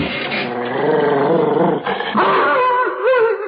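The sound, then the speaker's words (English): A dog named Kim growls and snarls continuously for several seconds in protest as he is brought inside, loud, the rumbling rising into strained, whining growls near the end with no talking over it. “He's protesting rather vehemently, sir.”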